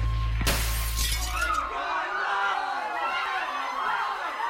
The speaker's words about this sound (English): And when that glass hits my lips, that's his cue to take the shot. Salute. I tip the glass to take a sip. Then a bullet shatters the window and splatters his whole shit.